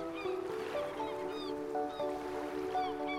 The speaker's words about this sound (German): Du hörst das Rauschen des Meeres, die Rufe der Vögel.